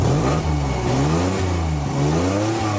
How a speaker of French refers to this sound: Celui du moteur de la SM. Vous l'aviez reconnu ?